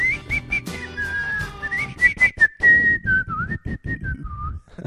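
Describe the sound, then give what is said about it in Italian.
Someone whistles a short, bouncy march-like tune, the melody hopping in quick clipped notes with a steady rhythmic pulse beneath it, fairly loud, with no talking. “Ecco, quindi anche il solo fischio della marcetta praticamente scatena l'ira di Garibaldi.”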